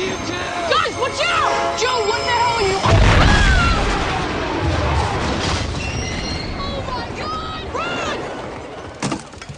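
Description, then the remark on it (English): A loud train crash in a movie scene erupts with a deep explosive boom, followed by sustained rumbling, screeching metal and huge pieces of metal crashing down, plus scattered pops and bangs of ongoing explosions near the end. “The explosions go on and on, and mammoth pieces of metal crash down at decibel levels no 80s movie could reach.”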